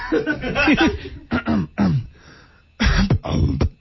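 A run of close, throaty coughs in several separate bursts, some rough and voiced like throat clearing, with short pauses between them and no talking.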